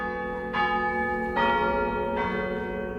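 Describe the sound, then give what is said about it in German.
A large church bell, the biggest of the church's bells, rung by pulling, rings with three full, resonant strikes about a second apart, each tone swelling over the lingering hum of the last, with no voices present. “Also es macht wirklich Laune, besonders an der dicksten Glocke zu ziehen und die richtig zum Klingen zu bringen.”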